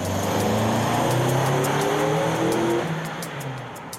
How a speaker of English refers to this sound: Michael Sussman gave us this video of a test conducted by Westchester County Police. In it, D.J.'s car is shown accelerating to where Aaron Hess was standing.